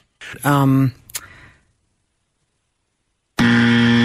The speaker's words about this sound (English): Dang it. Oh, yeah. Just after the buzzer. Sorry, yeah.